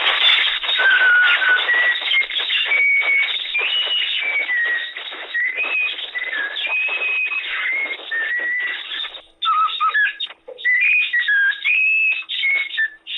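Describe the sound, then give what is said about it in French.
A talking bird whistles a long, warbling run of rising and falling notes, mimicking the intonation of its owner calling a dog, pauses briefly, then resumes with a few more whistled phrases. No one speaks. “comme j'ai un chien qui s'appelle Spirou, je l'appelais de moi-même, Spirou, de lui-même, il a sifflé dans la même intonation”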